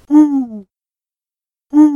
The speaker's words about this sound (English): Male eagle owls hoot to attract a mate. The hoots are so loud they can be heard far away. We also hoot loudly to show other eagle owls that this is our area, and to tell them, don't come into our area.